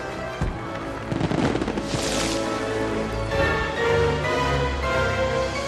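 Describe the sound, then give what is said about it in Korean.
A lavish fireworks display at Gatsby's party: fireworks crackle and burst in rapid, overlapping loud pops, with a sustained bright whoosh midway, all layered over swelling orchestral music. “화려한 불꽃놀이가 시작되자 개츠비는 파티장을 떠나고요.”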